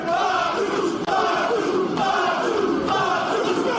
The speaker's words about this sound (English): And this crowd comes alive for Jacob Fatu, at least in this moment. They always do. They always do.